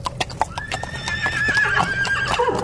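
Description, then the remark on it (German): A soldiers' horse during the Second World War gives a long, wavering neigh while hooves clop in an irregular rhythm, the sharp hoof strikes clearest at the start before the whinny rises over them. “Bernhard Cimek hatte sich um die Pferde der Soldaten zu kümmern”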